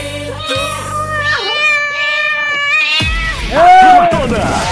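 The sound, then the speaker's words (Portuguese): A cat meows loudly, giving a few long, wavering cries in a row, played on Rádio Povo FM's Super Manhã show. Some low thumping and background noise sit underneath. “É o gatinho na área.”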